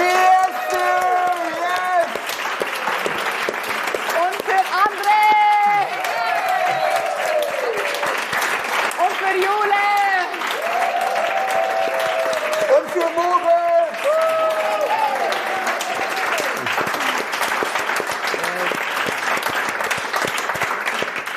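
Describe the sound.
Loud, sustained audience applause with dense, steady clapping that lasts the whole stretch, while voices speak and call out over the noise.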